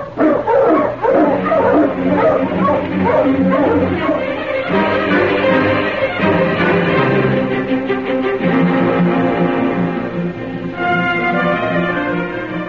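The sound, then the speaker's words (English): A pack of sled dogs, being readied for a trail trip to town, barks and yips excitedly all at once, a dense, loud chorus of overlapping barks and high whines continuing steadily. “Get the dogs up, King.”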